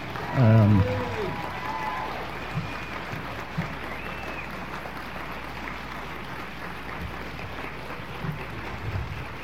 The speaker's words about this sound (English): But applaud my parents while I get myself together, if you would.